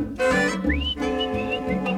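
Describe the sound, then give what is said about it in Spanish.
A person whistles a rising, sliding note followed by a few short sustained tones, playing along with a full band in a lively song. “Me sonreía y yo le chiflaba.”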